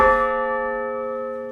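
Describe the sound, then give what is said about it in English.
An enormous old church bell in a town's church tower, made in 1899, is hit once by a man, its sharp metallic strike giving way to a rich, steady ring of layered tones that sustains and slowly fades, with no voices. “As he hit that bell, Gykus recreated the very same sound residents of Milheim heard back in the late 19th century.”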